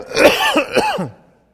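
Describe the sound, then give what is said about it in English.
Strained voiced sounds as someone tries to talk while inhaling break into a rough cough and throat clearing, lasting about a second before trailing off into silence. “You can do it a little bit, but it's really hard. Make you cough.”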